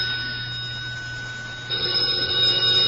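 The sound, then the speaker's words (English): A telephone on an extension cord, lying under the evening paper, rings steadily with a bright, metallic jangle over a low hum, growing louder a little over halfway through. No one speaks. “It's the telephone. I know, I hear it, but where is it?”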